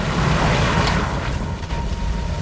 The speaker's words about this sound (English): A car carrying two black and white boys drives up.